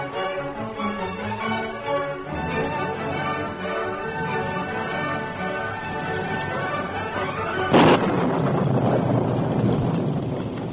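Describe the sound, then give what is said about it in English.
Music plays for several seconds, then a sudden loud crack of thunder breaks in and gives way to a steady roar of storm wind, a storm of great intensity at dusk on the trail toward Clayton. “It was dusk and a storm of great intensity had come up.”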